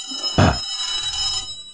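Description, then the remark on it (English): A telephone rings steadily with a bright, high electronic trill that carries through the whole moment, briefly joined by a short muffled thump near the start. No one speaks. “It'll stop ringing in a minute.”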